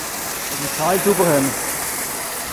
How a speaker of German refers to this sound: Auf jeder Seite in der Werft steht ein Arbeiter mit einem Feuerwehrschlauch in der Hand. Während das Schiff einfährt, spritzen sie den Schlitten und den Unterteil vom Schiff ab, damit der auch sauber wird.